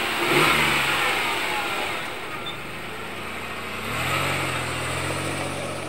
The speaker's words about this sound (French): Peu après, le père de Zoé sort à nouveau du garage, ferme la porte à clé, met la clé sur la fenêtre et part avec la camionnette.